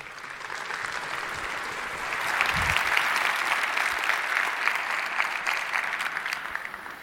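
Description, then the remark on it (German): Steady audience applause welcoming a speaker for a talk, a dense wash of many hands clapping that swells slightly after a couple of seconds and carries on evenly throughout, with no voices on top. “Einen ganz herzlichen Applaus bitte für Michael Kreil.”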